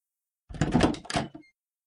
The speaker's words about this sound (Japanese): その時、玄関のドアが開く音が聞こえました。